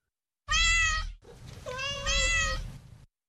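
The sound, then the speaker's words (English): A cat meows twice, a short loud cry followed by a longer, drawn-out wail, with a soft low rumble underneath and no one speaking. “Cat videos to the rescue.”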